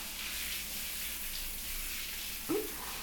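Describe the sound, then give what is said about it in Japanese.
A shower runs steadily, its water hissing in a constant, even spray for the whole stretch, with a brief soft knock near the end. “シャワーの音で聞こえなかった？”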